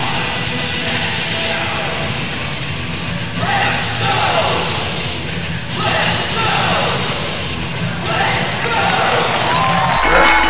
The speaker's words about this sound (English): Sam Natus takes his Triple X title off his right shoulder once again, thrusting it up into the air. Listen to this crowd pop for Sam